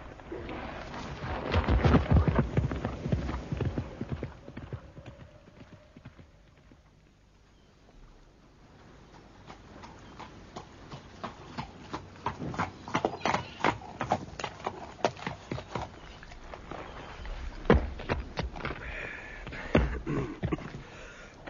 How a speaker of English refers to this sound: let me mount up behind you on your horse and we'll ride for the dockyard